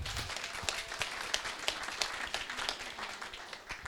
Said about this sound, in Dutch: En ik wil even van tevoren een applaus voor de uitbater.